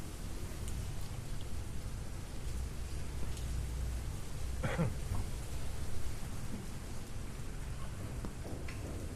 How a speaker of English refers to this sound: I was gonna walk home, but it's raining. It's pouring, babe.